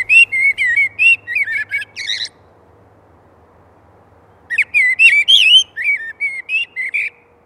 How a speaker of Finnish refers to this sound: Annetaan aluksi puheenvuoro. No, vaikkapa mustarastaalle.